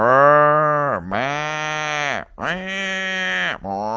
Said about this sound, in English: And that's what these cows are doing. They're mooing, they're lowing as they went.